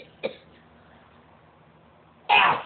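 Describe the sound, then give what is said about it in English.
Two sneezes: a quick, softer burst first, then after a pause of about two seconds a much louder, fuller sneeze. No one speaks. “Bless you. Bless you.”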